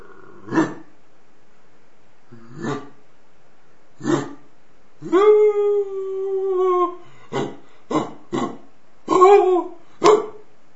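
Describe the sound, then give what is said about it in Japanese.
A person imitates a dog, making the sounds using only the throat: several short bark-like yelps, then a drawn-out wavering howl, followed by a few more quick barks and a final short howl. “犬の真似です。”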